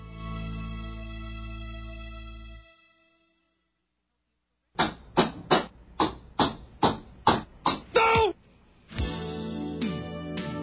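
A hammer pounds a nail into a wooden church door, depicting Luther at the church in Wittenberg: about nine loud, sharp blows in a steady rhythm, heard after a stretch of music and a short silence, with music resuming afterward.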